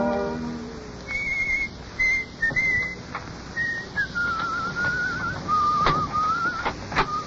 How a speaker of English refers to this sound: He doesn't whistle that well.